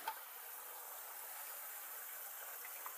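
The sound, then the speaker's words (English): Water runs steadily from a tap into a container to make coffee, a soft, even rushing hiss that holds constant for the whole stretch, fairly quiet and with no voices. “Gotta go rifle through the dishes to find stuff. Get water.”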